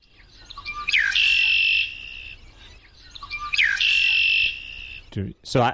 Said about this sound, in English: Could it be a red-winged blackbird? Yes, bird? Yes, it is.